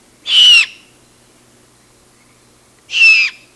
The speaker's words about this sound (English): Just after dusk, listen for these distinctive calls and picture a great horned owl parent hunting for still more rodents to feed its insistently begging young.